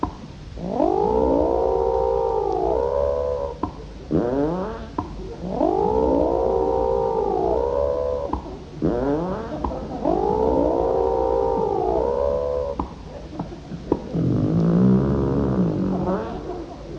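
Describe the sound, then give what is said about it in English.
A voice imitates an elephant playing tennis: three long, wavering, trumpet-like wails, each followed by short choppy grunts, ending in a lower gargling rumble. Fairly loud, with no talking. “And now, squires and tarts and the girls from Darlington with the spot, here is my impression of an elephant playing tennis with an idiot.”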